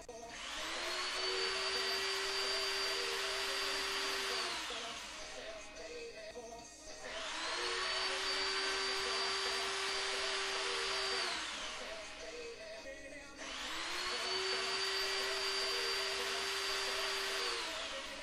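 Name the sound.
power drill drilling holes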